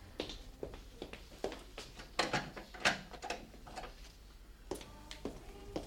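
A series of soft clicks and knocks as a bathroom door is handled and its lock quietly turned, several small sharp sounds spread unevenly over a few seconds, with no talking.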